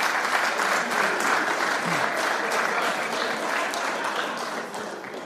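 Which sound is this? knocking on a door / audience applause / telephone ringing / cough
audience applause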